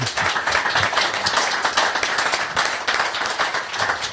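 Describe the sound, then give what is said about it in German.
A crowd applauds steadily, a dense wash of many hands clapping at once, fairly loud and sustained for several seconds without pause, with no voices standing out above it. “obwohl das hat eigentlich auch nochmal einen Applaus verdient, finde ich, oder?”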